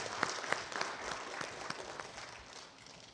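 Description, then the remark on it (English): A church audience at Covenant Believers Christian Center applauds steadily as an offering to God, many hands clapping at once in a dense, even wash of sound, with a few sharper individual claps standing out near the start. “If you clap Jesus, I think we should do better.”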